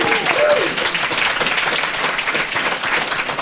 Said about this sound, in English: So everybody in the room, give the listeners back at home a big hello and a round of applause for yourselves and for them. Linux Fest, let's hear it.